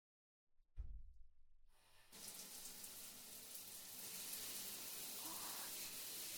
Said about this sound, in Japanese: 湯船に入る前に軽く体をお流ししますので、こちらにお座りください。ではシャワーで流していきますね。